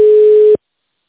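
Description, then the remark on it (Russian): A single steady telephone line tone, loud, heard while waiting on hold, holds for about half a second and then cuts off abruptly into silence. No voices are present. “Оставайтесь на линии. Вам ответит первый свободный сотрудник.”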